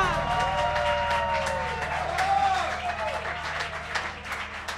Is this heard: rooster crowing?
no